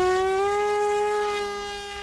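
A small handheld drone whines steadily overhead, a sustained mid-pitched motor buzz rich in overtones that holds one pitch and fades slightly toward the end, with no talking.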